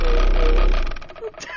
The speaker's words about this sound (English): Is that him farting in there? Yeah. It looks like I'll be in here a while.